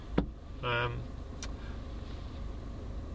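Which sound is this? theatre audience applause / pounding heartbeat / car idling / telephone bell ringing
car idling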